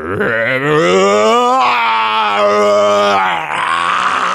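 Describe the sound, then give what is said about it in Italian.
A person's voice imitates the roar of a troll: one loud, sustained growling cry lasting about four seconds, rich and throaty, with its pitch rising and sagging in a couple of long waves. “Si alzò in piedi, mostrò i dentoni e cacciò un ruggito da far accapponare la pelle.”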